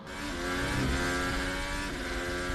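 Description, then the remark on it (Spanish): A modern Formula 1 car's high-pitched racing engine revs steadily and loudly, its harmonic whine holding through the whole short stretch with a slight rise in pitch. “Y este el del nuevo.”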